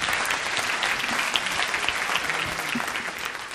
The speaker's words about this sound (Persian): مرسی هر دو. هر دو رو تشویق کنید.